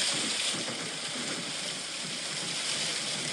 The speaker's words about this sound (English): Okay, rainstorm.